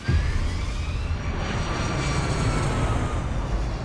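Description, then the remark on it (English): A loud, steady roar of airliner jet engines as flight Cactus 1549 takes off from runway 4, a high whining tone rising through it, filling the whole moment without any voices. “Cactus 1549, runway 4, clear for takeoff.”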